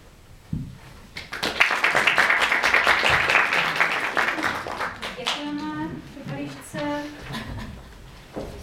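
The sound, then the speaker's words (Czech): An audience breaks into a burst of steady, dense clapping after a sung performance, swelling quickly and holding for several seconds, then thinning out as voices begin talking over the last scattered claps. “Ukláním, máte tleska.”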